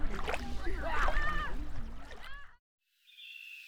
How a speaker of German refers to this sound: Nachdem sie sich gestärkt und umgezogen hatten, ging es auch schon los. Alle sprangen ins Wasser. Sie spielten und schwammen herum.